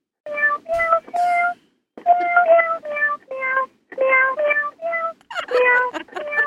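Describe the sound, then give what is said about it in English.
A cat meows insistently, about a dozen loud, tonal calls in quick succession, some clipped and some drawn out, with only brief pauses between them. “Meow.”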